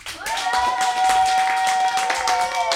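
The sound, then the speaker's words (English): An audience applauds the young players after an English quiz, a steady, dense patter of many hands clapping at once, with a sustained high tone ringing through the clapping. “On peut encore les applaudir.”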